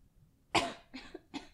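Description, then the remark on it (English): A harsh cough from a person who is sick, followed by two shorter, slightly weaker coughs in quick succession, with no talking. “Excuse my coughing.”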